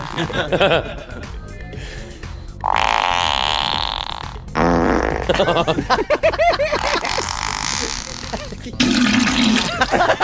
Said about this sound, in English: That's a Triple M fart. That's not a Fox FM fart.